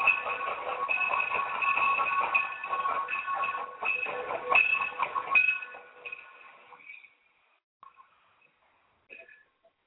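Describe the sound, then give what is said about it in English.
A train sound with a steady, sustained tonal whine and rumble that plays loudly for several seconds, then fades out, leaving only a few faint scattered chirps before near silence. “And here's the train.”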